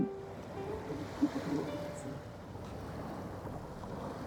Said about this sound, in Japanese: 海です。 めっちゃ波の音するね 海に来ました。